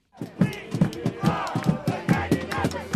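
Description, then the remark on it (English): Protesters occupying Zuccotti Park in New York's financial district, protesting income inequality, chant in unison, voices rising and falling in a steady, rhythmic cadence with loud repeated accents roughly every half second, many overlapping shouts blending into one continuous roar. “For the past 2 weeks, there have been a couple hundred protesters occupying Zuccotti Park, a small patch of open space in New York's financial district.”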